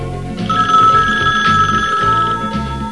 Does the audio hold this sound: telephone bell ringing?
yes